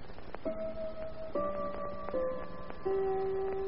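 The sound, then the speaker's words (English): A mantel clock on the mantelpiece in the study of Monsieur Armand Dormier chimes the quarter hour at a quarter past four, a short sequence of four sustained bell tones stepping between pitches, clear over a faint background hiss. “The clock on the mantelpiece in the study of Monsieur Armand Dormier chimes a quarter hour.”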